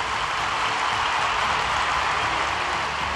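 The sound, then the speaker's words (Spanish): A large crowd at San Siro Stadium applauds and cheers enthusiastically as Pope Francis departs, a dense, continuous roar that blends into a steady wash of noise, sounding broad, with no distinct voices standing out. “En medio de aplausos y gritos de entusiasmo, el Papa Francisco se despidió abandonando el Estadio San Siro, no sin antes invitando a los presentes a que recen por él.”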